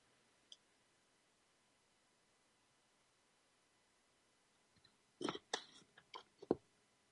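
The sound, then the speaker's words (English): After a few seconds of near silence, a burst of soft wet mouth clicks and slurping noises, someone sipping a drink and swallowing, then quiet again. “Just let me take a sip of something.”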